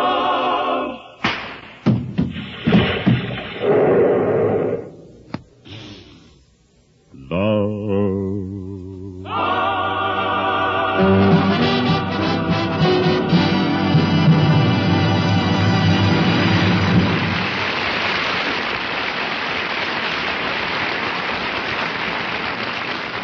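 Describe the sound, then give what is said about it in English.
A few scattered thumps, then a brief lull before an audience breaks into loud, dense applause that swells and holds steady for well over ten seconds, with tonal voices or music faintly underneath at first. “that applause should tell you what a hit you've written.”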